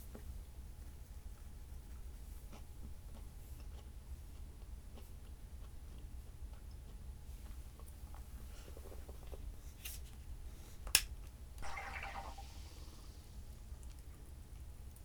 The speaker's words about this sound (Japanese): ごめんね、今炭酸水を家で作るやつを開けたんだけど、音うるさかったかな。